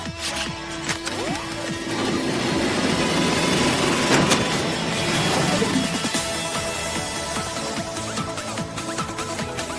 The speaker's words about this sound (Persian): اینو دیشب درست کردم. وای، اسکیت موتوری؟ اینجوری باهاش پرواز می‌کنی.